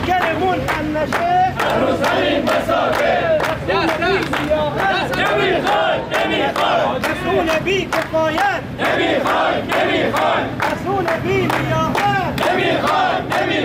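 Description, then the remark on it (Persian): A large crowd of contract workers at the Rampco company, builder of the Ahvaz urban rail project, shouts and chants together in protest over unpaid wages, a loud, continuous roar with sharp rhythmic bursts and overlapping voices throughout. “کارگران پیمانکاری شاغل در شرکت رامپکو در اعتراض به پرداخت نشدن دستمزد خود تجمع کردند.”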